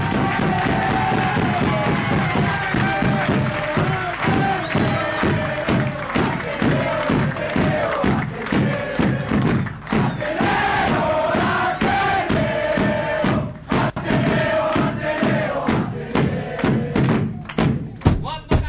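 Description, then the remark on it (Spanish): A big Peronist bass drum (bombo) pounds out a steady, booming rhythm at a political rally, its deep thuds driving on without pause over a loud, chanting crowd. “Nada que me incite más era corriendo a buscar un medio tanque a hacer un asado que el bombo peronista.”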